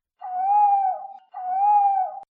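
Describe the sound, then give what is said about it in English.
A person imitates a night bird's call as an all-clear signal: two matching, drawn-out hooting notes, each about a second long, fairly high and steady with a slight fall at the end, loud and alone with no talking. “If you hear that call of an evening, 'tis no night bird. 'Tis our signal for all clear.”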